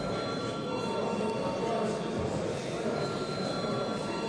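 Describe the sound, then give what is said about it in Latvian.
A parliament voting bell rings steadily for several seconds as deputies are called to vote on a proposal, a loud, continuous metallic buzzing ring with a harsh, even tone and no pauses or voices. “Deputāti, lūdzu balsojam, lūdzu zvanu.”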